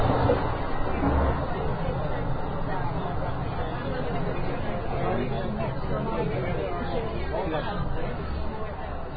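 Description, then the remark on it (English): A steady murmur of many overlapping voices fills the dining car of an Amtrak train, where waiters are working, no single word standing out, holding an even, moderate level over a low rumbling background throughout. “I guess that was the dining car, right? Because I saw waiters.”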